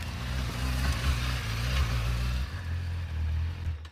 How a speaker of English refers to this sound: Outside, Peter pulls into the driveway on a green motorcycle.